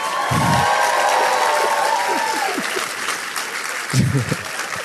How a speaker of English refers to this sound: First, let me bring out, I wanted them to be on the stage with me to start, but I guess they wanted their own applause to come in.